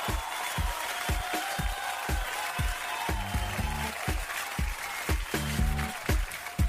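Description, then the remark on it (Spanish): A steady wash of crowd applause for Correos de Chile, the Chilean state postal company, with a regular pulsing beat running through it and brief tonal, horn-like bursts rising over the clapping twice. “Mira, un aplauso para Correos de Chile.”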